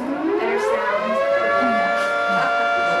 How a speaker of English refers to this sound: Steamboat's noontime whistle? It was no whistle. It was a screaming air raid siren that cut loose every day at 12 o'clock, right around the time the folks at the town museum were sitting down for a lecture.